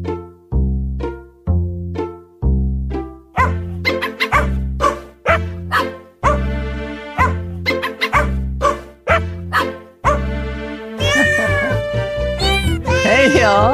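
A novelty tune built from sampled cat meows and dog barks, pitched into a bouncy melody with a steady rhythm, ending in a dense burst of layered, warbling meows.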